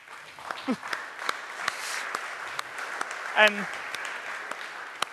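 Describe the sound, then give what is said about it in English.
Sustained audience applause at a Debian talk for running DebConf for five years, a dense steady patter of many hands clapping for several seconds, with a few sharper claps and a brief whistle-like cheer standing out from the crowd. “And answers were, well, running DebConf for 5 years, which, yes, definitely worth an applause, because it's a lot of work to run DebConf.”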